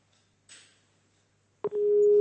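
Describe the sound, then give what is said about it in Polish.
After a brief hiss, a click leads into a steady, loud telephone line tone that holds unbroken until the end, as an attempt to take a listener's call on a radio phone-in fails to connect. “Nie udało się nam to połączenie”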